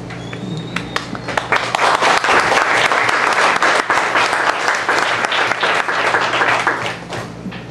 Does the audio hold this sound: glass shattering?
no